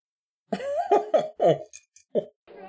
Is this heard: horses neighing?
no